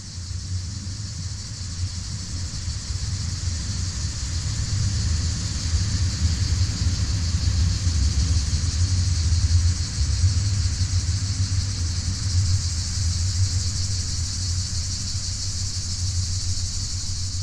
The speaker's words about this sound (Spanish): al bajar el ruido de las conversaciones de las personas y demás, porque se reduce el alumnado, se escuchan más los pájaros, se puede escuchar un poquito más el ruido de vehicular.